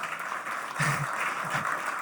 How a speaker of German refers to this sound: Herzlich willkommen, schön, dass du da bist und den beiden gleich mal einen schönen Applaus.